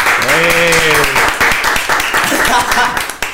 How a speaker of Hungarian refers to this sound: Nagy tapsvihar.